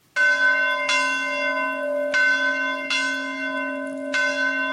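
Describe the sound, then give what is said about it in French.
A seminary church bell rings loudly and repeatedly, each strike renewing a rich, sustained metallic tone with long overlapping resonance, about four strokes in a steady slow rhythm, clear with no voices. “la cloche du séminaire.”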